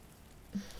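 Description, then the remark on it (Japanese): Soft, steady rain hisses in the background, a fine wash of drops that swells a little louder partway through. No voices. “雨、止まないわね。どんどん強くなっているみたい。”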